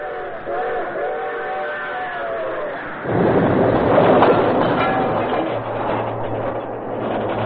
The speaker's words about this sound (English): The train's coming.